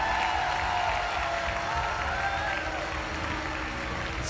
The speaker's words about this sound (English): Now clap your hands and celebrate your victory.